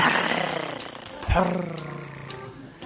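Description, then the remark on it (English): A human voice imitates a cat's purr with a low, throaty, rolling growl that stays fairly steady for a few seconds, swelling briefly louder midway. “Now I want to hear you purr like a cat.”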